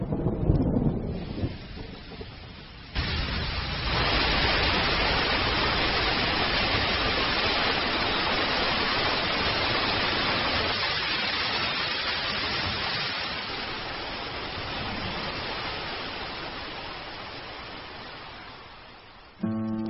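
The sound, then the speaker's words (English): A heavy summer monsoon downpour in saguaro cactus desert roars in abruptly after a low rumbling start, a dense, loud, steady hiss of rain that keeps going, easing only slightly toward the end. “After a rainstorm, the saguaro's long, shallow root system sucks up the water, and the pleats on its trunk enable it to expand rapidly.”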